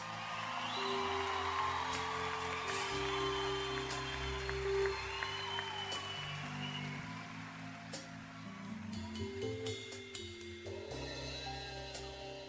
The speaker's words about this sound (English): Everybody give a big round of applause to all the musicians on stage.